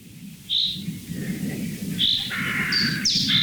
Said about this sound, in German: Bis die Krähen kamen.